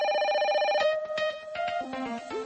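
telephone ringing

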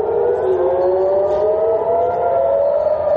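air raid warning siren

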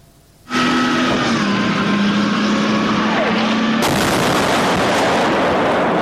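explosions

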